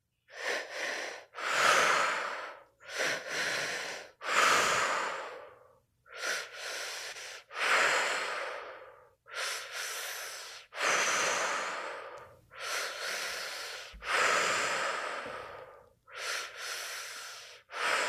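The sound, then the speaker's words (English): Deep, steady breaths in and out, fairly loud, repeating in a regular rhythm of about a dozen airy inhales and exhales with short pauses between them and no talking. “Focusing on breathing in what you desire to feel and exhaling what no longer serves.”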